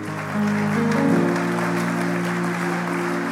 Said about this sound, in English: Can you clap your hands unto the Lord? If you have expectation, why don't you clap your hands a little louder?